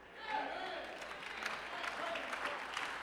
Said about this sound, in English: That's a weak clap, but I'm just.